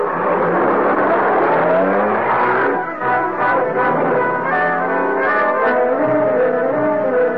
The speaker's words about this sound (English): There's a car.